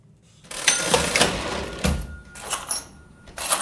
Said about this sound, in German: Einmal auf so einer Registrierkasse tippen, dass es so richtig kroset. Ein tolles Geräusch aus vergangenen Zeiten.